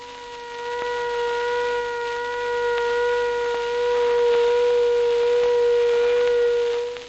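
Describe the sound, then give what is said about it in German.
A steady, unwavering all-clear air-raid siren, signalling the end of an air-raid alarm, holds one long high pitch for about two minutes, loud and sustained with rich harmonics. No voices are heard. “Die Aufhebung des Fliegeralarms, die Entwarnung, ist durch einen in der Tonhöhe gleichbleibenden, langgezogenen, hohen Sirenenton gekennzeichnet.”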